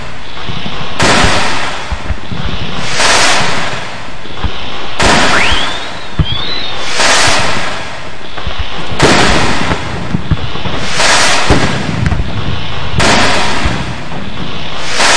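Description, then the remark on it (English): A rapid series of loud, booming firework blasts as an illegal M80 firework, lit with a match, blows three watermelons to pieces: roughly seven sharp explosions every couple of seconds over a dense crackling roar, with a brief rising whistle partway through. “lit a match under three watermelons, which were blown to pieces by an illegal firework called an M80.”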